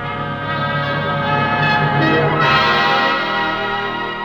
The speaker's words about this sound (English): bell with a clear, silvery tone. Your GE dealer will tell you how this same bell may win you a very special prize.